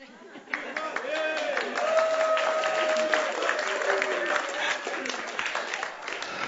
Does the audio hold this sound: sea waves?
no